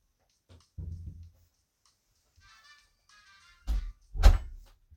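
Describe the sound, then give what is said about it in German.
The door of the speaker's room is pushed closed: a soft low bump, a faint squeaky creak, then two solid knocking thuds as it latches shut, with no voices. “Ja, sorry, ich musste hier gerade in meinem Zimmer die Tür zumachen.”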